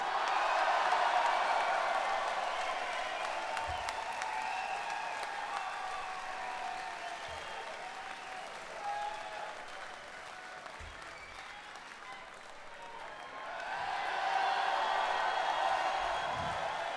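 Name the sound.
audience cheering and applauding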